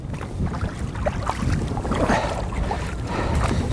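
Paddles dip and splash steadily as a small boat is paddled by two people from the bay back into Islayus Creek after about an hour on the water, going with the ebb, with a low rumble of wind buffeting the microphone throughout and no voices.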